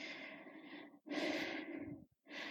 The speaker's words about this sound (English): My breathing so heavy with excitement and anticipation.